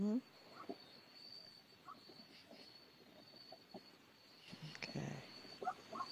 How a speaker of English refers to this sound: I am actually sitting on a roof. Oh, okay. Believe it or not. And yes, there's a cricket. Okay. I will mute myself. Oh, it's okay. I just was okay. It's fine. Just heard the cricket chirping in.